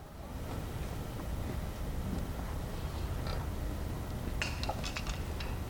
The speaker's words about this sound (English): Silence. Only one thing could get so many people in one of the biggest, most bustling cities in the world to all decide to stay quiet, knowing that human lives were at stake. The silence you just heard was a call from the workers.